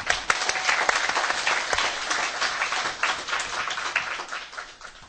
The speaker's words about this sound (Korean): 그럼 오늘 좋은 날이니까 박수 한번 치고.